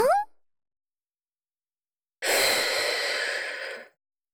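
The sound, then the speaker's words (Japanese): A brief rising squeak, then silence, followed by one long, steady blow of breath: a breathy hiss lasting under two seconds that fades out at the end, with no talking. “今度は息、吹きかけてみちゃおっかな。”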